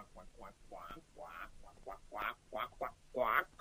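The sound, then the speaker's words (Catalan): A voice imitates a duck, making a rapid run of nasal quacks, roughly eight or nine of them, growing louder and more emphatic toward the end, clear. “Allí, dintre l'aigua, hi havia un ànec que sembla que seguia uns cursets de natació.”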